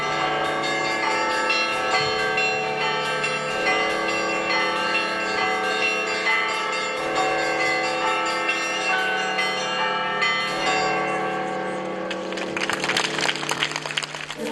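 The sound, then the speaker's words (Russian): Church bells ring out loud in a continuous, overlapping peal at a bell festival, the bell ringer of the parish of St. Alexis sounding them in a steady rhythm in dedication to the Akhtyrka icon of the Mother of God, with a faint rustle like clapping near the end. “Свой звон Ахтырской иконе Божией Матери посвящает звонарь прихода святителя Алексея”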